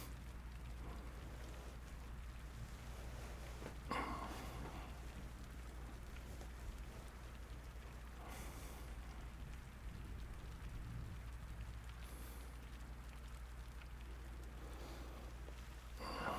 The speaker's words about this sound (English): It's all rainy.